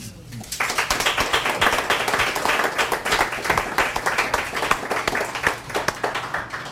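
An audience breaks into applause after a brief quiet start, many hands clapping in a dense, steady patter that stays fairly loud and even for several seconds.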